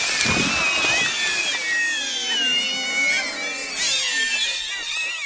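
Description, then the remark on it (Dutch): A screaming plant toy, resembling the plant from the Harry Potter series, is pulled out of its pot and lets out a loud, shrill electronic shriek, high-pitched and wavering, that rises and falls without pause for about five seconds, with no talking. “Als je dat plantje uit zijn potje trekt, dan gaat hij keihard gillen.”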